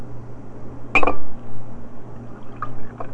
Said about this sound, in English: Here, have one more bite of this and I'll pour you some juice. Good. Okay. Now I'm going to pour you some juice.